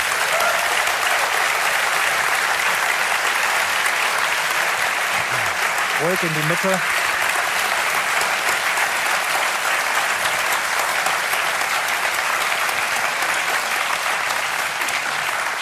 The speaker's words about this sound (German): Ganz besonders begrüßen wir einen Gast heute unter uns, und das ist Professor Heino Falke. Bitte begrüßt ihn mit einem warmen Niederhöchstädter Applaus.